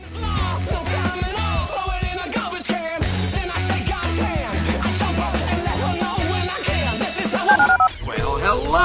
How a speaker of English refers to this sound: Dial the phone.